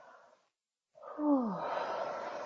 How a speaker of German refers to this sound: Und beginne langsam zu gähnen.